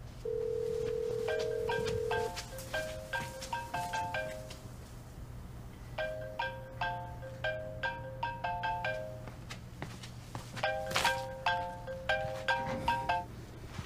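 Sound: mobile phone ringing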